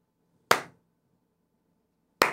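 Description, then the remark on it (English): A slow clap of the day: two sharp, loud hand claps spaced nearly two seconds apart, each with a quick decay, with quiet in between and no talking. “I need you to give the slow clap of the day to John_Frick in the chat.”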